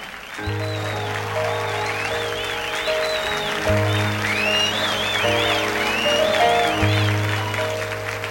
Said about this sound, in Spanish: Vamos a recibir con el aplauso de todos ustedes al gallo de la salsa rompiendo noches esta noche en The Pier 10.